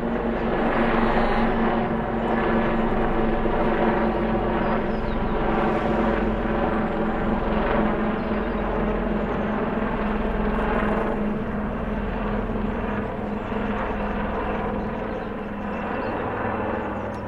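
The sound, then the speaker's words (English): A helicopter drones loudly and steadily overhead, its deep engine and rotor rumble filling the whole stretch without fading, with no voices heard. “No, it's a helicopter. I can see it.”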